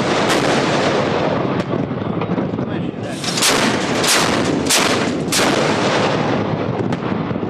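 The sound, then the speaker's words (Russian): A ship's naval artillery fires at a floating target imitating a mine during naval exercises, in a rapid series of loud, sharp bursts, several shots in quick succession over a constant roar of wind and engine noise, with no talking. “После выполнения артиллерийской стрельбы объявлено об окончании активной фазы маневров.”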